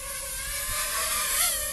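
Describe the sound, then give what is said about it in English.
A small, fast drone flying in sport mode whines with a high, steady buzz, its pitch briefly rising and dipping as it zips past. No one speaks. “It sounds very different from some of the other bigger drones that have bigger propellers.”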